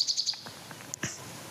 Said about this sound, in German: Und bei der Nachtigall ist es so, umso intensiver und länger ich hinhöre, umso tiefer geht der Sound.